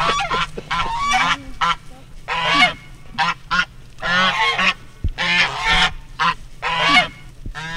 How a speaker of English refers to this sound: So this is Maverick and Buckles. They are African geese.